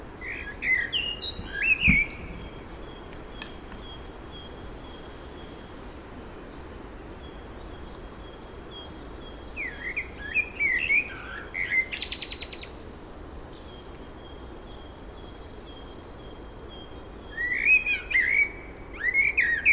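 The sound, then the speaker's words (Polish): A European robin sings in short, high, twittering phrases, three bursts spaced several seconds apart, over a steady background hiss with no one talking. “I to też kosy też tak potrafią śpiewać późno, aczkolwiek nieregularnie. Rudziki zdecydowanie więcej.”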